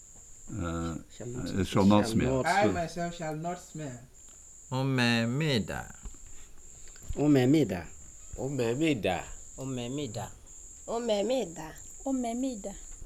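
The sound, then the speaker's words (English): A cricket chirps steadily and continuously in the background, a thin high-pitched trill that never stops while a person talks over it in bursts. “And of course, we have an unfortunate cricket that's come up.”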